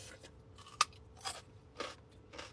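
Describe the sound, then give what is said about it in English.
A sharp, crisp bite into okra with mustard and cottage cheese, followed by three softer crunching chews at a steady rhythm, with no one talking. “Okra with mustard and cottage cheese.”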